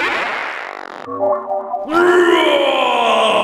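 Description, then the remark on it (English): A distorted, effects-laden monster groan made by a voice for a peanut and gherkinhead salad sandwich monster created in the Monster-O-Matic machine: a wavering growl, a brief lower tonal moan, then a loud sustained wailing cry that holds to the end. “It's a peanut and gherkinhead salad sandwich monster!”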